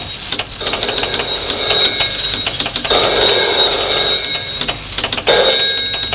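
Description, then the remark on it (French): A loud telephone rings in an office continuously with a bright, metallic bell tone, pulsing in rapid bursts with brief breaks between rings. No voices are heard. “Dans le bureau d'Alexis, le téléphone sonne.”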